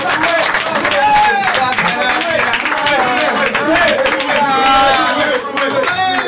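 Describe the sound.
A crowd claps steadily throughout, dense and loud, mixed with cheering and overlapping shouting voices for about six seconds.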